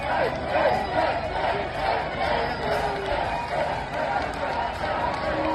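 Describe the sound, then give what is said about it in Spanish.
A large crowd shouts and cheers continuously for about 200 pilgrims who have just finished a pilgrimage and arrived at the Plaza del Obradoiro in Santiago de Compostela around 10:30 on a Sunday morning. Applause mixes into the steady roar of many voices, loud and sustained without pause throughout. “Bueno, gritos, ovaciones, aplausos para esas 200 personas que acababan de finalizar el Camino de Valores.”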